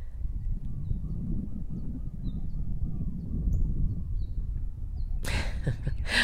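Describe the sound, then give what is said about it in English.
Faint, brief high chirps from a small bird catching a bug come and go over a low outdoor rumble on the island of Hawaii, then a sudden louder rustling burst arrives near the end. “A little bird just literally catching a bug right in front of my face.”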